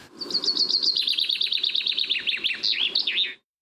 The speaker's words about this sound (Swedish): Ja, och bofinken och dess sång var en av fåglarna